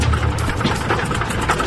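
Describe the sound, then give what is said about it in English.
A big radial engine, engine number 2 of a Canso water bomber in Hay River, rumbles loudly as it is fired up, with a rough, uneven low throb under broad roaring noise and no voices; the engine coughs and hiccups. “Bob Dick and his engineer Russ Popel fire up engine number 2.”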